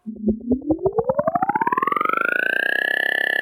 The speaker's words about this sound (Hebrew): במקום זה, בניתי מכשיר קטן שמפיק צליל שמוחק את הזיכרון.